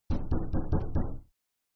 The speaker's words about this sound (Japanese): え?ノックの音?私がここに住み始めてから、お客さんなんて誰も来たことなかったのに。配達でしょうか?でも、こんな山奥に届け物なんて。